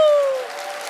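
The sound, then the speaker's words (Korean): A short burst of audience applause at a public broadcast welcoming bestselling author Lee Ji-seong, a steady wash of clapping noise, opening with a bright sustained tone that slides slightly downward in pitch before fading under the claps. “큰 박수로 맞아주세요.”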